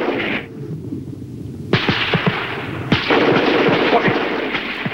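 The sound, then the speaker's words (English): Repeated rifle shots crack out in quick irregular bursts over a constant rushing wind-like background, as an advancing squad fires on a patrol in foggy, snowy woods. No one speaks. “Flashes of gunfire pierce the fog.”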